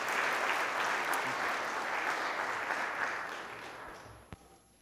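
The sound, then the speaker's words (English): An audience claps in a dense, steady round of applause for a guest speaker, holding loudly for several seconds, then thinning out and fading, with a single sharp clap near the end. “I appreciate the round of applause.”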